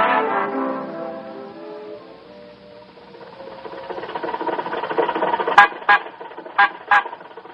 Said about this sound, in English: You don't honk at red lights, you stop for them.